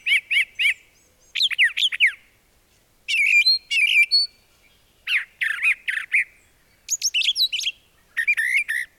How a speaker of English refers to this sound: One brown thrasher made it into Ripley's Believe It or Not for its repertoire of 2,400 distinctly different song phrases.